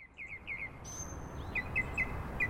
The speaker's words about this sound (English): Birds love a wetland, otherwise known as a bog, a marsh, sometimes a swamp, a fen.